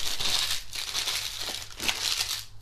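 Dry, crackly crinkling of a plastic packet being rustled and squeezed for guinea pigs, a continuous bright hiss broken by sharper crackles, with no voices.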